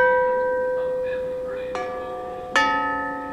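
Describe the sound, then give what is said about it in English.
8-foot-tall metal tubular bells at a percussion exhibit ring out with long, shimmering sustained tones, then two more clear strikes land about a second apart, each blooming and slowly fading with no voices present. “They lead up to the 8-foot-tall tubular bells.”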